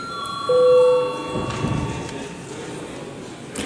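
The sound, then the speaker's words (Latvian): A chamber bell in the Latvian parliament, the Saeima, rings as debate breaks for a recess, a steady, sustained metallic tone with bright overtones, strongest in the first second, then fading out under a low murmur of background noise. “Lūdzu zvanu.”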